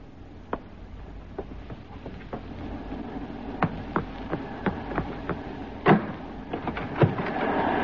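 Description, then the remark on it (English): A front door being opened in the morning for a Coast Guard officer: a string of sharp clicks and knocks, irregularly spaced, then a louder rattling clatter near the end, like a latch and lock being worked. No one speaks. “Oh, it's the front door.”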